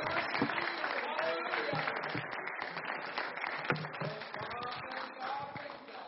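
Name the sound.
audience hand clapping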